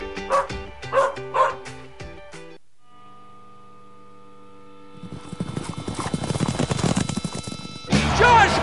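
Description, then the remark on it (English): A dog barks three times in quick succession, loud, in a promotion for Bark in the Park at a Rough Riders baseball game, then falls quiet as a steady tone and a rising rush of busy, noisy clatter take over. No one speaks. “Bring your four-legged furry friend out for a Rough Riders baseball game.”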